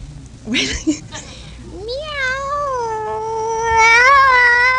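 Contestant number 1 in a cat-meow contest lets out one long, loud, drawn-out meow that rises and then holds steady, growing louder toward the end, after a few brief muffled noises at the start.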